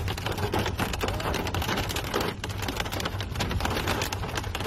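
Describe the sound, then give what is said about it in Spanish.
Hail hammers down on cars in the middle of a motorway in early June, a dense, continuous clatter of countless sharp impacts that stays loud and steady throughout, with no voices. “En Albacete, la A43 quedaba totalmente cubierta con un manto blanco de granizo”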